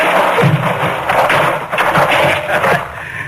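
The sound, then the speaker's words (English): A case of printer's type, sent for all the way from St. Louis, is dumped out and spills in a loud, continuous rattling clatter of small metal pieces, with dull thumps scattered through the cascade and no voices. “Oh, this is that printer's type you sent all the way to St. Louis for, ain't it? Now look out, Creighton. It'll take me weeks.”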